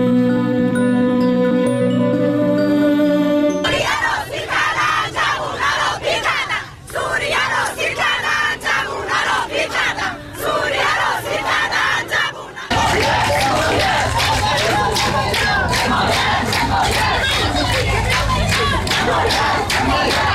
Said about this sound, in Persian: صدای زنان رساتر از آن است که شنیده نشود. در ویدیوهای منتشر شده بر روی شبکه‌های اجتماعی، فریادهای آنها یا در میان جمعیت شنیده می‌شود و یا تاریخ و محل تهیه ویدیو را اعلام می‌کنند.